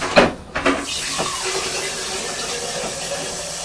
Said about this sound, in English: Now I've put some water on it. Yeah. Fill the vase up.